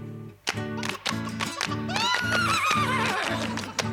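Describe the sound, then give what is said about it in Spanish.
A horse whinnies loudly with a wavering, descending neigh over an upbeat, rhythmic song about farm animals with steady bouncing beats. “La gallina y el caballo se pusieron a resbalar.”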